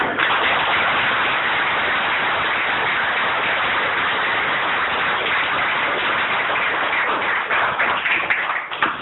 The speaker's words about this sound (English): Let's give Dan another round of applause. Thank you, Sarah, for speaking tonight.